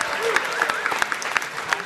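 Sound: applause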